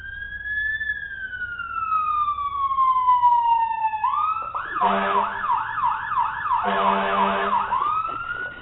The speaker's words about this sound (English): It's kind of funny that way, you know, and I can hit this buzzer meter over here.